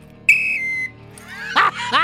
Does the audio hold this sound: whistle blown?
yes